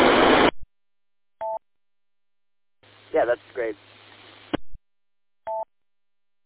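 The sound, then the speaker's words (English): Two short, clean electronic beeps at a steady mid pitch from a radio repeater during a net, separated by a burst of static and a brief stretch of talking over a low hum. “Okay, as soon as I hear the beep, I heard the beep, and I clicked back on.”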